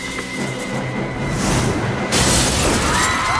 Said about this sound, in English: Gregorio picks him up and throws him through a schoolhouse window.